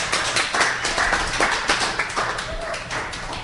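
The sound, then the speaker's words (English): An audience claps and cheers for the Lord in the morning: dense, steady applause with a mix of raised voices running throughout, loud and continuous without pause. “Give the Lord a cheer this morning.”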